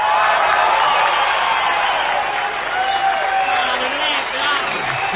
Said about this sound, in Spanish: No menos desmesurada ha de ser la gritería ensordecedora que salude la aparición del artista antes llamado ….